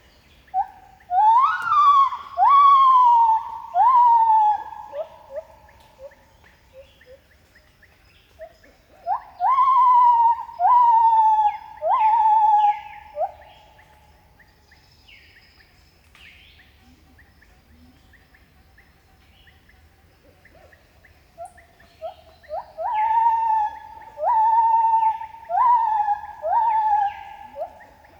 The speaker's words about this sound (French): J'ai entendu au loin ma quête sonore du moment, le chant des gibbons.